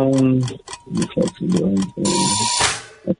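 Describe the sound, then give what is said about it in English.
A quiz timer ticks in a steady, quick rhythm, about a dozen sharp clicks over voice-like tones, before a loud burst of hissing noise washes over the end. “There's the timer again.”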